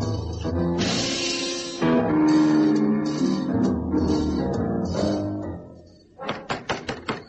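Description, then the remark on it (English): After several seconds of dense, busy background sound, a police officer knocks about six times on the front door of a rented house, in a quick, even rhythm, each knock sharp and loud. “All right, I'll knock at the front, and you and Detective Constable Willem, sir, cover the back.”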